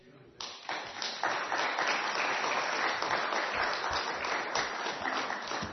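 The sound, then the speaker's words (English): A church audience breaks into applause welcoming a guest speaker after a short moment of quiet, the dense clatter of many hands rising quickly and holding steady and fairly loud for several seconds. “It's always a good idea to applaud before the speaker, because afterwards, I need to use one of these because I can't stand in one place.”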